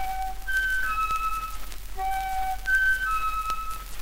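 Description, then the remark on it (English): A silly little whistle comes from a whale named Wilbur blowing through his spout instead of water, playing twice, each time a short, clear tune stepping upward in pitch, over a faint steady background hiss with no talking. “Instead of water, just a silly little whistle came out.”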